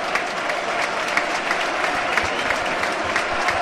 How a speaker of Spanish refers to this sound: Y ovación de la grada a un jugador que lo da todo, ¿eh?